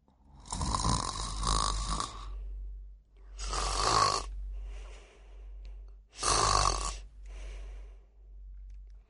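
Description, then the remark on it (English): Tom, a cat, snoring in its sleep on the rug at night: three rasping, breathy snores at a steady, slow rhythm with quieter exhales between them, fairly soft, with no talking. “Tom, the cat, is sleeping and snoring on the rug.”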